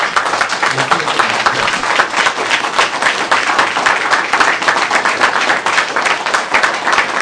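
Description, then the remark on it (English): A crowd in West Oakland breaks into sustained, loud applause for soldiers who have stood and continue to stand for them. Dense overlapping claps keep an even level for several seconds, with no speech over it. “So since we're here in West Oakland, where our party finds its beginning, can we give those soldiers that have stood and continue to stand for us a well-deserved round of applause?”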